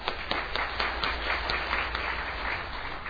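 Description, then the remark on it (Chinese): An audience at a worship service applauds steadily to welcome a first-time visitor, many hands clapping in a dense, even wash of sound with no voices standing out, holding at a moderate level throughout. “我们一同鼓掌欢迎。”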